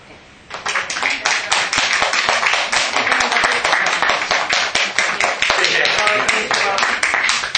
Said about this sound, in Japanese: はい、 じゃあ拍手で迎えましょうか。